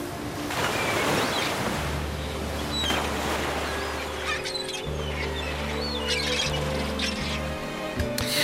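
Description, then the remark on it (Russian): Pacific Ocean waves wash and roll continuously at a steady, fairly loud level, as on Krusenstern and Lisyansky's round-the-world voyage, with sharp bird squawks cutting through and a low droning hum underneath. “В Тихий океан мы плывем.”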